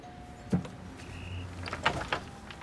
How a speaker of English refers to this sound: He presses the bell on a dark blue door.